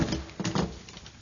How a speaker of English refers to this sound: Bolt the door.